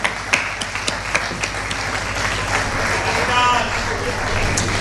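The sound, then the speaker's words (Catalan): A crowd breaks into sustained applause welcoming the president of the Raval de Cristo commission, with a few sharp individual claps at first building into a dense, steady clatter of many hands that fills the whole stretch. “Un fort aplaudiment.”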